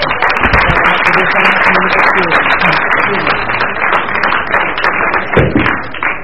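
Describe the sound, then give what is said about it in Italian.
Sustained applause from an audience for the speakers at an event in Cacecilia, a dense, steady patter of many hands clapping at once for several seconds, with a murmur of voices mixed in underneath. “Non c'è bisogno del microfono, siamo a Cacecilia, si aprono le porte, i nostri relatori già applauditi possono alzarsi in piedi gentilmente”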